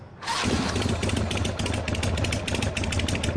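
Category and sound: vehicle, scooter engine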